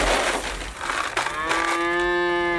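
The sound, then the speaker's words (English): A single cow on a farm lets out a long, drawn-out, clear moo, following a second or so of rough, noisy rustling. No one speaks. “runs a farm featuring an assortment of goats, chickens, and cows.”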